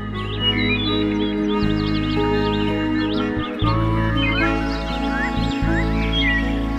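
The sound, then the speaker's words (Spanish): A dense chorus of many birds trilling and chirping at once amid fluttering, a continuous overlapping chatter over a steady low rumble, with no one speaking. “Luego de escuchadas estas palabras, en la asamblea de pájaros hubo un gran revoloteo y un prolongado alboroto de trinos.”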